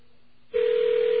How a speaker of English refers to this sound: Okay, that is a phone ringing. Let's take a good listen to that. All that noise is the BAI connection. And that's what's basically known as static on the line, as an electronic ring.